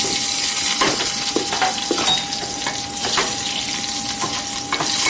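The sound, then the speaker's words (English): Battered cicadas deep-frying in hot oil, a steady dense hiss of bubbling with sharper pops and crackles bursting through every second or so. A thin, constant whine sits underneath. No one speaks. “This is a sauteed, battered, deep-fried cicada.”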